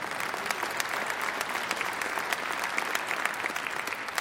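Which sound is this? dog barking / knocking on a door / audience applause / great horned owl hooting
audience applause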